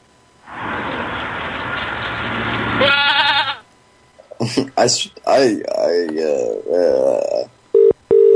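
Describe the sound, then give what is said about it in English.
Loud goat bleats, starting with a long raspy, wavering cry and followed by several shorter quavering bleats in quick succession, with no one talking over them. “Can I play goat noises?”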